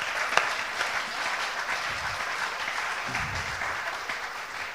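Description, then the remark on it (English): A crowd claps steadily and continuously as a clap offering to the Lord, a dense, sustained wash of applause with no clear rhythm at moderate loudness. “Let's just give a clap offering to the Lord.”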